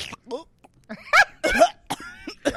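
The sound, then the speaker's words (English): A voice imitates a raspy smoker's cough: several harsh, wheezy bursts with strained, groaning vocal tones in between, fairly loud and uneven in rhythm. “I don't know about choking, girl, but smoker's cough.”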